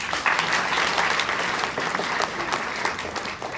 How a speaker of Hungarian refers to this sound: Először a 26 előkészítős kisdiákot szeretném köszönteni, tapsoljuk meg őket!